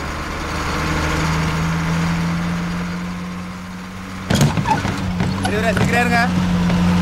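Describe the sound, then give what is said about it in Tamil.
A bus engine drones steadily at a low pitch the whole way through, loud, with voices talking over it during the second half. “Driver கொஞ்சம் வண்டி நிறுத்துங்க, டிக்கெட் போட்டுக்கிறேன்.”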